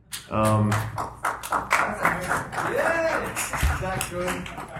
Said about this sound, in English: I love the applause.